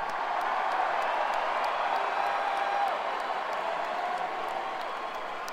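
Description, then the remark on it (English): A large concert crowd roars steadily for several seconds, a dense wash of cheering and clapping with a few higher whistles or whoops poking through, loud and sustained without pause. “I'll tell you the truth, we were in the back just saying, this is incredible, incredible crowd, what a great crowd, this is really incredible.”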